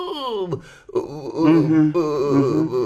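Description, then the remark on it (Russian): A long, voiced yawn that rises and falls in pitch with a moaning, drawn-out quality, breaking briefly before stretching on again for a few seconds. “Зевает, значит, да?”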